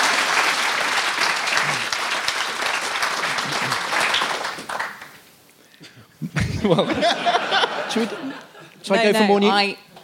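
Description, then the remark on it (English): Steady, dense clapping from a crowd fills the first five seconds, then fades out as scattered chuckles and voices take over. “As a performer, I know when the applause has happened, that's it, you move on.”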